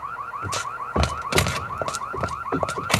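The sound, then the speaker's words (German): An alarm system connected to the police rings with a rapid, repeating electronic warble that pulses steadily throughout, fairly loud, with scattered thuds and clattering noises breaking in over it. “Die sind mit dem Alarm kurz geschaltet.”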